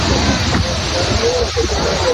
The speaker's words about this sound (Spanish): Así suena un reventón térmico a orillas del mar. Son tormentas secas, sin precipitaciones, pero con rachas de viento huracanado y mucho aparato eléctrico que puede provocar, por cierto, nuevos incendios.